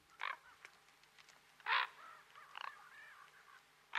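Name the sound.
common raven croaking calls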